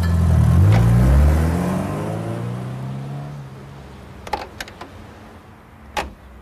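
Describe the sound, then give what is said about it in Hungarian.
A car engine revs loudly, then settles as the vehicle drives off and fades away, followed by a few sharp mechanical clicks and a thump. “Kövesse azt az autót!”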